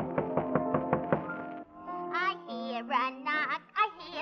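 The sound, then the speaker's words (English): A quick run of about six knocks on a door in an opera scene, as a man arrives home, over a held musical tone, followed by a voice singing in a high, wavering melody. “He knocks on the door.”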